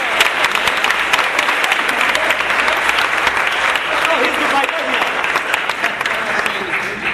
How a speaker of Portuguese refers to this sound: uma salva de palmas.